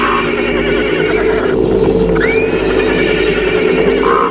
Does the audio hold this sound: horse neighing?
yes